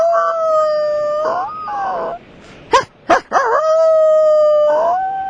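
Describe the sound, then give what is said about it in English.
A person uses their own voice to mimic a coyote howl with long, sustained wavering wails, interrupted midway by a few short sharp yips, then another drawn-out howl, loud with no other talk. “Coyote.”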